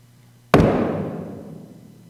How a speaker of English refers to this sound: With every strike of the hammer,